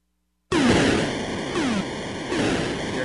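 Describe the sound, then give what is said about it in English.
Sound effects from River Raid, the Atari vertical shooter by Activision designed by Carol Shaw, where the player flies an airplane along a river: after a short silence, a loud, harsh, static-like engine drone kicks in, crossed by three falling whistle sweeps at a steady pace. No one speaks. “Well, here's the actual game.”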